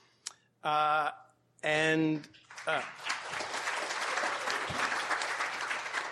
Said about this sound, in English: Please don't hold your applause.